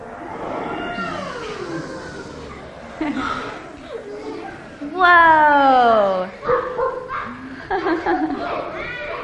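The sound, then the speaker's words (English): Several children's voices imitate lions, snakes, tigers and elephants all at once, with overlapping growls, yelps and rising, falling howl-like cries, building to a loud chorus midway before breaking into scattered calls. “So I need my lions and my snakes and my tigers and my elephants. Everyone go.”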